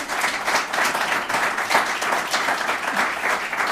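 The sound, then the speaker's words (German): Sustained audience applause at the Maschinenraum Momentum event, a dense wash of many hands clapping steadily at a fairly loud, even level throughout, with no voices standing out. “Ihr hört es am Beifall.”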